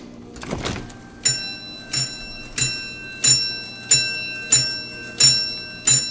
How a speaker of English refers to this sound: This is a strength tester machine. Oh, boy. It's a wooden box from the 1920s with a bell inside. If you've got a dime and a little juice in those biceps... All you have to do is squeeze these together.